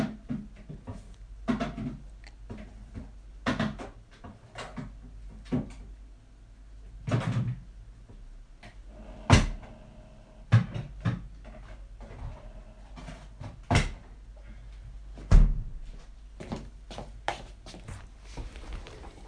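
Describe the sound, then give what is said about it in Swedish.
A room door being shut amid a string of scattered clunks, knocks and rattles, with a few sharper, louder thuds standing out over a low background hum; no one speaks. “Jag måste bara stänga min dörr.”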